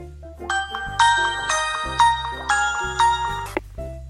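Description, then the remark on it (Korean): A mobile phone ringtone for an incoming call from the mother, in a radio retelling of the film My Sassy Girl, plays a bright, chiming electronic melody, its short phrase of bell-like notes repeating in a steady rhythm, clear with no one speaking. “복학 기념으로 친구들과 즐거운 시간을 보내고 있는데 엄마에게서 전화가 왔습니다.”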